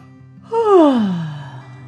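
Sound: narrator imitating a yawn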